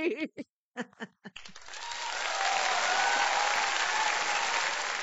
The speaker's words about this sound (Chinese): 好啊！ 掌声鼓励。